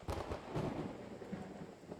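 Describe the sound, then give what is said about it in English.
A steady hiss of heavy rain with low, rolling thunder rumbling underneath, fairly quiet overall, with no voices. “It still sounds so bad out there. I didn't know we were supposed to get rain”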